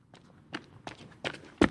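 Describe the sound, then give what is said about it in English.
Footsteps of a man following behind someone on a dark, empty street at night: four or so steady steps in a brisk rhythm on the hard street surface, growing louder, with the last step the sharpest. No voices. “I had the uncomfortable feeling that I was being watched, followed, and then I heard footsteps behind me.”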